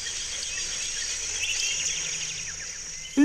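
A steady, high-pitched chorus of crickets and insects hums continuously through an autumn birch forest ambience, with faint chirps layered in and a short low thump right at the end.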